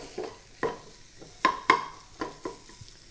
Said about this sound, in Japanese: 一度火を止めて、薄力粉を全体、鍋全体に広がるように振り入れていってください。そしたら、すぐ全体混ぜていきますね。鍋の余熱で小麦粉の粉っぽさがなくなって、全体に広がっていきます。